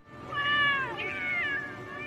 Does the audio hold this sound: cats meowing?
yes